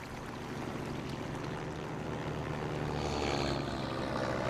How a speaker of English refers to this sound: A small plane soars above them.